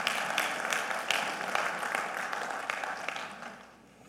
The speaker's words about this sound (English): Let's give the Lord another round of applause.